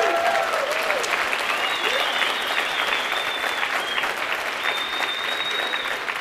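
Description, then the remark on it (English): An audience applauds the mention of being asked by President Bush to serve on the first President's Advisory Council for Financial Literacy: a dense, even roar of many hands clapping at a constant loudness, with a few faint whistles rising above it. “And for those of you who are not clapping, I also served under Obama, just so you know.”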